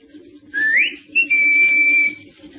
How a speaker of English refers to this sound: No, he's not in the car. Must be nearby somewhere. Well, I'll give him the whistle.